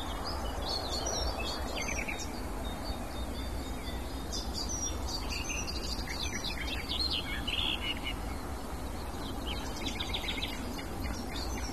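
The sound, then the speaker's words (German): A songbird sings fast, hectic, varied phrases of chirps and trills, pouring out almost continuously over steady outdoor background noise, with no talking. “Dann ist es sehr hektisch vorgetragen und laut.”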